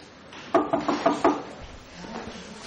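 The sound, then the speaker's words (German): Five quick, evenly spaced knocks by a woman on an office door in a public office building ring out at moderate volume, followed by a quiet stretch of room tone. “Sie klopft an einer Bürotür.”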